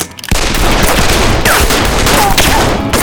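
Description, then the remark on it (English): A loud, sustained burst of gunfire begins abruptly after a brief pause, many shots cracking in rapid, overlapping succession like a dense volley, continuing without letup to the end; the gunfire spooks grazing cattle into a stampede. “A second later, the snake-branded cattle were off and running, the sounds of gunfire spooking them from their quiet grazing into a stampede.”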